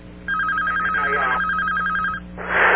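A telephone rings with a fast, warbling electronic trill that lasts about two seconds, loud, then cuts off as a brief burst of rustling noise follows.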